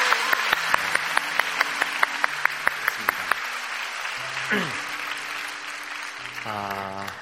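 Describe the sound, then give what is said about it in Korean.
A church audience breaks into steady applause to encourage the church's young adults: dense clapping with a few sharp, evenly spaced claps standing out at the start, while brief voices and a sung or spoken tone rise over it near the end. “여러분들의 자녀들 함께 또 우리의 다음 시대를 준비하는 우리 청년들이 있기 때문에 마음이 참 든든한 것 같은데 보이지 않지만 여기 없지만 우리 청년 세대들을 향해 큰 박수로 한번 격려하면 좋겠습니다.”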